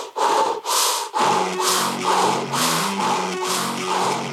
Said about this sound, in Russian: глаза сейчас зажмуриваем, дышим ртом вот так.